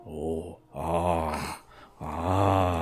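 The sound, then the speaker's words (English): A voice imitates a ghoul's pleased grunts as it is led out of a robotics area: three loud, drawn-out, low groaning grunts, each about half a second to a second long, separated by short pauses, with no words spoken. “You've managed to make your way halfway back towards the door, and the ghoul with its appears to be pleased noises of grunts and.”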